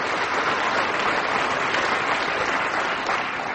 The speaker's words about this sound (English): Why are they clapping? Because you came on.